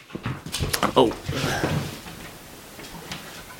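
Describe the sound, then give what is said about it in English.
Shuffling and clatter as a dog with a squeaky toy is put outside, with a brief high whimper or squeak, followed by a door knocking shut. Afterward a low, quiet room tone lingers. “I've just had to put River out, because she's going to start squeaking that toy”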